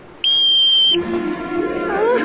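One loud, shrill whistle blast, blown as the signal for a broom-flying lesson to kick off from the ground, holds a steady high pitch for under a second, then cuts off, leaving faint murmuring voices and background noise.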